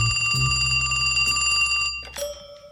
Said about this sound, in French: Soudain, le téléphone retentit.